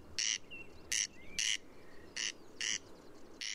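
A corncrake calls in Ireland with dry, rasping double notes repeated in a steady rhythm, fairly loud, against a quiet outdoor background with faint birdsong.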